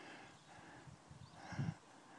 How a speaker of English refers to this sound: So it's me and the dog against the two horses. Oh, one's coming down. I'm just going to have to see if I can walk up and push them back.